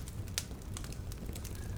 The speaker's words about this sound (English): Just allow everything, use the crackling sound of the fire to allow everything to melt away.